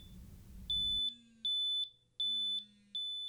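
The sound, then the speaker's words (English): A carbon monoxide detector, used for a quick test during a home energy audit, sounds a steady, evenly spaced series of loud, shrill electronic beeps, following a brief rush of background noise at the start. “A steady beep means no reason for alarm.”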